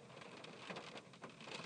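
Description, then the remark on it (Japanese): Dense, steady patter of small hail pellets striking surfaces outdoors in strong wind, a continuous crackle with brief louder bursts, no voices. “あられ降ってきたよ、あられ。”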